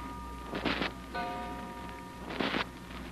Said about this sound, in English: But you can't sleep. You're still wide awake, staring up at the ceiling when you hear the clock downstairs strike three.